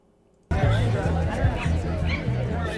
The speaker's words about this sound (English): On Friday, September 20th, a crowd of University of Connecticut students gathered on the Student Union lawn to hold a climate strike, taking part in the global climate strikes that were occurring throughout the world.